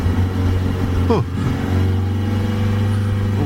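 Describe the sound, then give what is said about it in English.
A car engine hums steadily, dips briefly as if shifting, then rises again in pitch as the car pulls away onto a road in the UK and accelerates, fairly loud throughout. “Okay, I just need to check behind me. All right, let's get on the road.”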